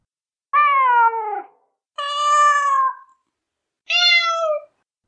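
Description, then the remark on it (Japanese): Several cats around the Nekohana Bookstore meow one after another, three drawn-out, distinct calls of differing pitch, each about a second long with short pauses between, loud with no talking. “猫花書店の周りは猫でいっぱいだった。”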